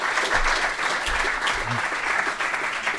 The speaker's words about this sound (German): Applaus. Bravo, bitte nochmal. Hervorragend.